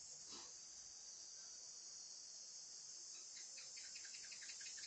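Crickets chirp steadily in a dense, high-pitched drone that fills the whole stretch, with a few brief pulsing trills near the end; quiet and continuous, no voices.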